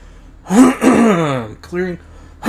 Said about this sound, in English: clearing my throat.